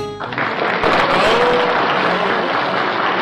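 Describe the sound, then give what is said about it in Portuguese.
A burst of crowd applause sound effect, dense steady clapping that starts abruptly and stays loud for about three seconds, with no voices over it, played for a caller who won a wine in a giveaway. “Cadê os aplausos, Deva?”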